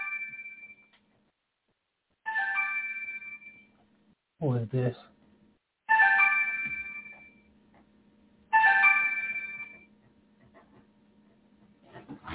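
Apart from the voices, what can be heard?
phone ringtone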